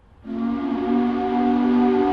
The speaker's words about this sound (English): The shift change whistle still sounds four times a day in Corning, New York. Though these days, the whistle mostly reminds Corning Incorporated's office workers and researchers that it's time for lunch